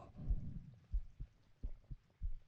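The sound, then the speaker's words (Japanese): A person's heartbeat heard with an ear against their chest, pounding as low muffled thumps in a steady pairs-like rhythm, about five beats over a couple of seconds, with a soft rustle early on and no talking. “心臓バクバク鳴ってて心地よくないんじゃないの？”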